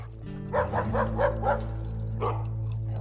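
police dog barking

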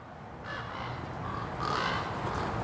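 ravens cawing

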